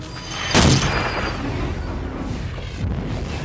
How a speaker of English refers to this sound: Artillery!